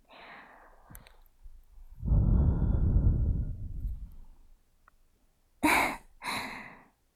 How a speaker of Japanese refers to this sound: さて、次は、隣、失礼しますね。少しばかり、添い寝させてもらいます。はい、添い寝しちゃいました。吐息攻撃。